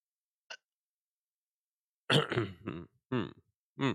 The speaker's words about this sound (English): I was about to cough, but is my thing even connected? All right, it was connected, so I've been able to cough.